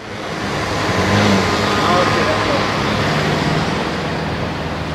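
Steady, dense roar of road traffic on major roads in the west of Lausanne, many cars passing continuously, a broad rumbling wash of engine and tire noise that stays loud throughout, without any clear gaps.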